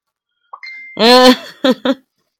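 A message notification goes off on a phone that was not put on silent: a thin short tone, then a loud, buzzy, voice-like note and two quick clipped blips, all within about a second and a half with no talking.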